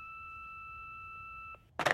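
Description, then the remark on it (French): A single long beep from Dr. Marcel Duvernay's answering machine, reached by telephone, holds a steady electronic tone for about a second and a half, then stops abruptly and is followed by a brief rustling clatter, like a receiver being handled. “Il est absent, mais laissez vos coordonnées et la raison de votre appel après le bip sonore, il vous rappellera.”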